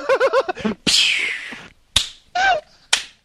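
A few sharp, loud slaps land on a person at uneven intervals, the first followed by a brief whooshing ring, with short high-pitched vocal yelps just before.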